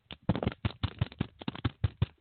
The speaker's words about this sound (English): take a dollar bill. I'm going to use a piece of paper for this exercise. But take a dollar bill and pop it like this.